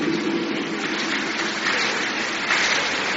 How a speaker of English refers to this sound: Thank you, those of you who are clapping. Your hands will never wither.